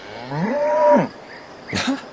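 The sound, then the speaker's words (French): A cow moos once in a long, drawn-out tonal call that bends down at the end, followed by a shorter, rougher second moo. No one speaks. “Und die Kuh macht Mu.”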